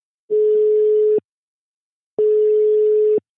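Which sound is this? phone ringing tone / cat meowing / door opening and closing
phone ringing tone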